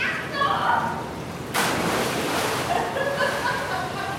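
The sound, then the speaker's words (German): A child throws diving rings into a pool and jumps in after them: a single sudden splash midway through, followed by a steady wash of churning water, with children's voices and light giggles throughout. “… wirft Tauchringe ins Wasser und springt hinterher.”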